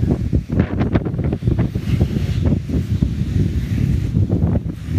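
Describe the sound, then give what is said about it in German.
Strong wind roars and buffets the microphone on a North Sea beach, with the rush of surf mixed into a steady, loud low rumble. No one speaks. “Nordsee.”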